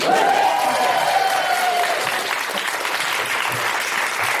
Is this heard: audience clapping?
yes